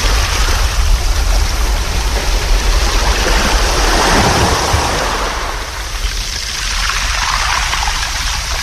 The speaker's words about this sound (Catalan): Ho demostra també el Daniel, que es relaxa amb el so de les onades de l'Ametlla de Mar.